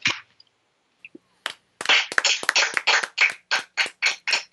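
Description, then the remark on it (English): Hand clapping from a small group of people applauding after a poem reading, a few scattered claps at first, then a steady run of sharp, bright claps that continues to the end. No voices are heard. “that's what us clapping like sounds like in the background.”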